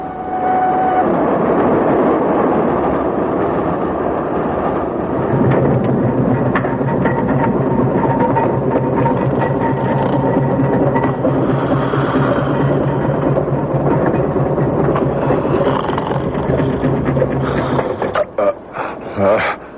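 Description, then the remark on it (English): A train rumbles steadily along the rails with dense, continuous mechanical noise and clatter, then the sound thins and changes near the end as it slows for Reading, the last stop before Paddington, with a few sharp clanks. “What's that? Train slowing.”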